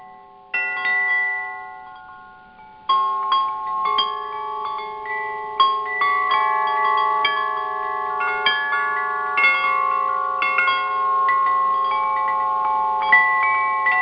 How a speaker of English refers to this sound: Okay, that was a set of chimes I have. They're called solfeggio tones. Solfeggio, and these basically, the idea behind them, they are original frequencies of creation that have been used.